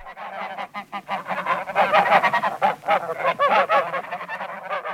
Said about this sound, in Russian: Гуси полетали-полетали, покричали-покричали и ни с чем улетели.